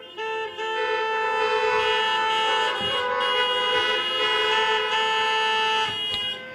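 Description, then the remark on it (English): Many car horns blare at once in a sustained, overlapping chorus of steady tones, some higher and some lower, holding loudly for several seconds before fading slightly at the end, sounded by an audience gathered in their cars at a Christmas service. “That just proves to those who are not gathered here that you are here and they're listening at home that we have cars.”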